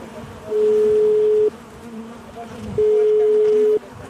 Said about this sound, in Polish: czy to jest trójka, czy to jest wymiana matki, czy to jest brak matki, czy to jest zadowolenie ze względnej równowagi w gnieździe, czy może wręcz przeciwnie, coś zepsuło tą harmonię i po dźwiękach też pszczelarz może poznać jakby stan pszczół.